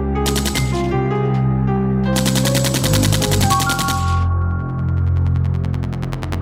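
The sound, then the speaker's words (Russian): Rapid bursts of automatic gunfire rattle loudly in two long volleys over a heavy, droning low rumble with sustained tones, like a battle scene; no one speaks. “Танки, обстрелы, взрывы, много раненых людей.”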